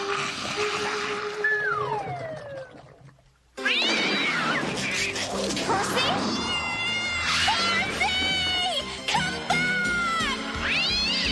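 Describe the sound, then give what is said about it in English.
A black cat meows with rising, wavering cries, then breaks into loud, drawn-out caterwauling and yowls, insistent over busy background noise. “A black cat to take to the witch's ball.”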